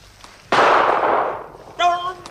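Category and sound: sound effect, pistol shot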